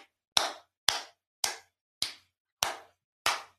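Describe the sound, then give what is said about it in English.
Six sharp hand claps at a slow, steady pace, each a crisp slap with a short fading tail, with silence between them and no voices. “Not me literally clapping.”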